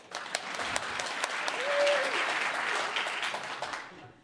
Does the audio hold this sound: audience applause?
yes